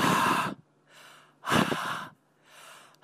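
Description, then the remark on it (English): A man blows hard into a Breathometer breathalyzer sensor plugged into a smartphone, in three strong exhalations spaced about 1.5 seconds apart, with softer inhaling breaths between them and no talking. “The guy breathing into your radio”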